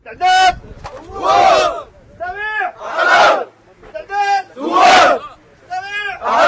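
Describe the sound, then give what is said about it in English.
A group of volunteers shouts in loud, rhythmic unison, bursts of chanted cries alternating with brief pauses, while drilling at a shooting range under the direction of a military officer. “Back at the shooting range, the volunteers are drilling under the direction of a military officer.”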